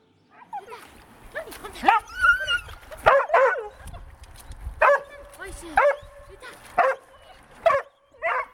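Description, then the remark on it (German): Kluni, a black-and-brown medium-sized poodle water rescue dog, alternates high, whiny whimpers with sharp, excited barks at the edge of Lake Thun in Hilterfingen on a Thursday evening, wet and wearing an orange life vest. The yelps come in uneven bursts roughly once a second, fairly loud throughout, with no one speaking. “Das ist der Kluni, ein schwarz-brauner Pudel von mittlerer Grösse.”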